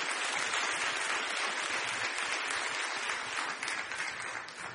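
An audience at a church service claps steadily for several seconds for the First Lady, a dense, loud wash of many hands throughout, tapering slightly near the end with no voices standing out.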